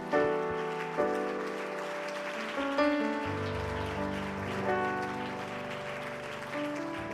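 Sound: audience clapping hands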